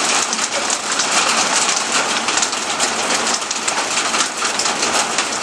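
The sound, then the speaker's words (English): Heavy rain and penny-sized hail pour down in a dense, steady hiss during a thunderstorm in Middle Tennessee, drumming hard on surfaces with no letup and no voices. Any thunder is too faint to stand out. “a thunderstorm, Middle Tennessee style.”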